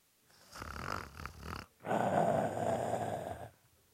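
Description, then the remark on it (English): Two loud, rasping snores follow each other closely, the second longer and heavier than the first, with no talking. “It might be snoring.”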